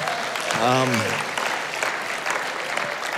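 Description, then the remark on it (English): A church audience claps steadily in a dense, continuous wash of applause, cheering for the morning's worship music, with one loud voiced whoop of cheering rising and falling early on before the clapping carries on to the end. “And you can cheer for that one as too.”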